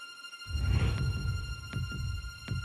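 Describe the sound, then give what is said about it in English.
A deep, throbbing heartbeat pulse thuds steadily and loudly, a low rhythmic beat repeating about once a second over a faint electronic hum, used as the countdown timer for a game show round called Contrast. “Finish contrast before your heartbeats run out and you'll bank £250.”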